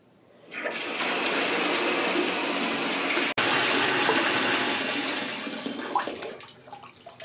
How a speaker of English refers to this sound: Ooh, my gosh, the temperature is really cold. Hold on. Let me just, put the hot water a little bit more.